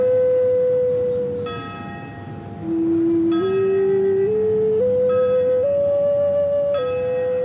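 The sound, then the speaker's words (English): Prison bells ring out in a loud, steady series of sustained tones that step up and down in pitch, with a resonant hum underneath and no voices, signalling all inmates to return to their cells for the day's headcount. “The prison bells ring out.”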